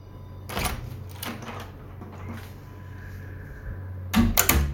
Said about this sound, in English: Then it started to play with the door. You can hear the twisting of the doorknob, then creak.